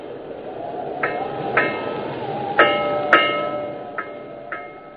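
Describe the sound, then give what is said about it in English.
A bell tolls slowly and dismally through cold, wet fog, ringing in paired strikes, about six in all, each leaving a lingering metallic ring that overlaps the next, over a steady, murky rush of background noise. “And you hear, through this gray darkness, this wet, wet tolling, the dankest, dismalest bell in all the world.”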